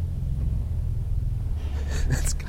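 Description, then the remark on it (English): A very deep pipe organ note, low C in the pedal from a soft 32-foot Dulciana stop whose pipe is 32 feet long, heard as a steady low rumbling drone more felt than heard, with faint airy noises appearing near the end. “Yeah, well, that was the Dulciana 32.”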